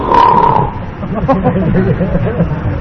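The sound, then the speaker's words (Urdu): A man telling a story imitates a watchman's loud, rasping snore with his voice, a single rough throaty snort lasting under a second, followed by continued talking. “الخباب لگاتے لگاتے جب ہوئی تو ادھر سے خراٹے کی آواز آئی.”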